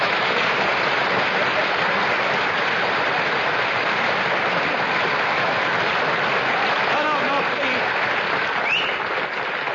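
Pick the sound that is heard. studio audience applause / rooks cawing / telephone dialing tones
studio audience applause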